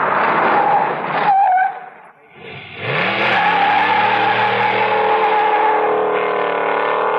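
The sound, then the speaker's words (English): A car engine runs loud, drops off briefly as the car halts with a squeal of tires, then revs and pulls away again, rising steadily in pitch. “Stopping and starting too much.”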